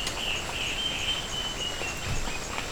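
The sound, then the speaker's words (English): A male and female bird pair sing together in a steady, high-pitched trilling song that runs the whole time, about 12 to 15 metres away and 1 to 2 metres up, at 10:30 a.m. on 14 April, over a constant background hiss. “So these in the last couple of cuts, or three cuts rather, is this pair number 8, male and female singing.”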